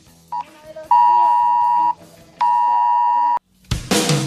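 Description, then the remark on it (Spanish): A mobile phone alert tone blares in two long, loud, steady buzzing beeps after a brief chirp, with faint voices underneath, ending in a burst of rough noise. “sí, sonó en mi celular también.”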